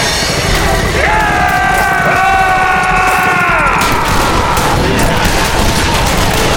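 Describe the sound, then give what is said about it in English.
A sustained barrage of gunfire from five men firing shotguns, pistols and rifles into a crowd of murderers and bandits crackles without pause, mixed with chaotic crowd noise and rising, wailing cries, loud and dense throughout. “Soon, all five men charging the murderers and bandits were firing shotguns and pistols and rifles into the crowd as they closed ranks with them.”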